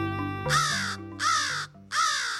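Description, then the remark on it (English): A crow gives three loud, harsh caws in steady rhythm, each a raspy burst about half a second long, over a low sustained musical tone. “Crows play many roles in human cultures, from ominous tricksters to sacred purveyors of wisdom.”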